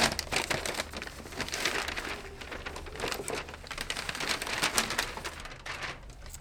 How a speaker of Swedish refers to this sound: Ska vi se här. Prassla lite för att ljudillustrera spänningen.